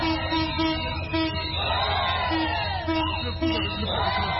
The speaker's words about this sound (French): La circulation du train facilite d'autres activités économiques telles que le commerce des produits agricoles près de la gare centrale de Brazzaville. Ici, toutes les vendeuses ont applaudi l'arrivée du train.